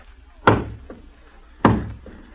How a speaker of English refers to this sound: Someone at the door. Open it.